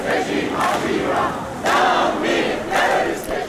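A large crowd of Iranian-Americans at a yearly demonstration against the Iranian regime and Rouhani shouts and chants in loud, sustained waves, with several surging bursts of massed voices rising over a constant roar of many people.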